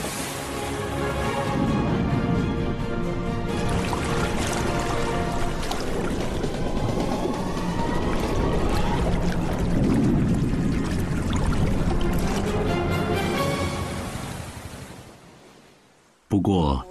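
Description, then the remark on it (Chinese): Continuous churning and splashing of water as fishermen tread water hard and draw in the net mouth to catch flying fish, loud, with voices mixed in, lasting about sixteen seconds before cutting off abruptly. “奋力踩水，收起网口，依靠口袋战术和默契配合，才能有可观的收获。”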